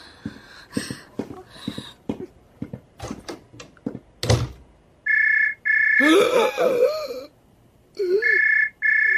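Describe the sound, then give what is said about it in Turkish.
After a run of sharp knocks and clatter, a telephone rings in steady, high-pitched bursts, three rings with short gaps, loud and clear over faint background sounds. “Zəng açdılar.”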